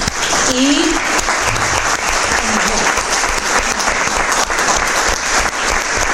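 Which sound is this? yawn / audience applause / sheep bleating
audience applause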